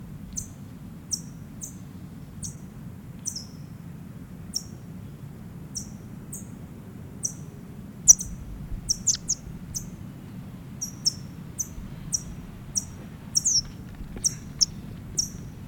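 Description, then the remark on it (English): A bird held alone in a bag gives short, sharp, high-pitched chip calls again and again at an irregular pace, some in quick clusters, over a steady low rumble with no talking. “Back in the bag now, alone, chipping.”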